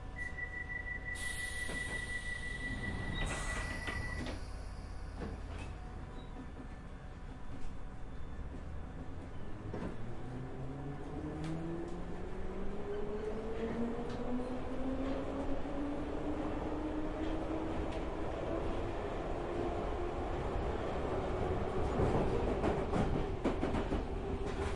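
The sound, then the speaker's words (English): A London Underground Piccadilly line train to Cockfosters accelerates away between Hounslow West and Hounslow Central stations, its motor whine rising steadily in pitch over a constant loud rumble of wheels on track, with occasional clicks and rattles from the carriage. “This is a Piccadilly line service to Cockfosters.”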